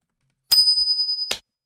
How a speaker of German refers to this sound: Aber dazu müssten wir eine Münze werfen.